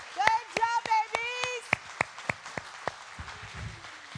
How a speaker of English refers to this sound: Happy birthday, Jesus, and Merry Christmas to everybody. Merry Christmas. Amen. Let's give a round of applause for the kids. Hallelujah.